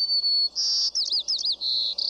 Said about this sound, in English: This is the song of a white-crowned sparrow. Some describe it as, "See me, pretty, pretty me."